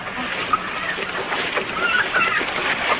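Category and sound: bird, chickens clucking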